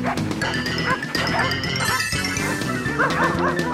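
dogs barking and yipping

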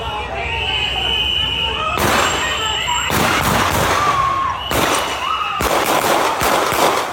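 rapid series of gunshots

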